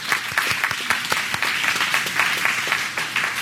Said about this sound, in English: As a participant of the Peaceful Solution Skype training program, I would like to thank first the leader, Mr. Yisrael Hawkins. Let's all clap for him.